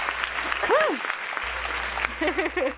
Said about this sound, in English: Oh, yes. You need to be applauded.